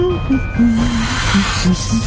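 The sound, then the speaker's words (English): A steady snake hiss, as of snakes coming up from a toilet, runs for about two seconds, breathy and fairly loud, with low, murmuring vocal tones pulsing faintly underneath. “Snakes are coming up from the bog.”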